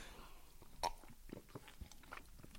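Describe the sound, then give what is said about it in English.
Quiet mouth sounds of someone sipping and swallowing water: one distinct wet gulp early on, followed by soft clicks and smacks, with no talking. “I have a sip of water, which is also a goal.”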